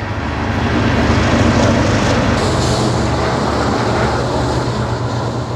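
A heavy coal freight train of 120 cars, each holding 200,000 pounds of coal, rumbles steadily through Edgemont, South Dakota, a loud continuous roar of rolling cars with low droning tones and metallic grinding, no voices.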